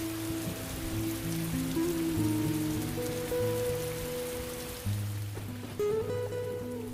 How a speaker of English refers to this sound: Oh, sounds like it's raining outside. Just a tad bit.